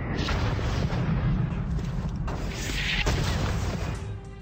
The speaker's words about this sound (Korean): 미국군은 약 100문의 포를 가지고 높은 지대에 포진하고 있으면서 낮은 지역에 있는 영국군을 향해 사격을 가했습니다. 영국 함선들은 포트 맥헨리 함포 사격을 가했습니다.